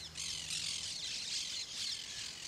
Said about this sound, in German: zeigt sich, dass die grünen Papageien auf fast allen Aufnahmen zu hören sind, auch im Parco Borghese, auf der Piazza Lutero, im Giardino degli Aranci. Sie zerkritzeln sämtliche Planquadrate der Stadt vom Luftraum aus, den sie hörbar beherrschen.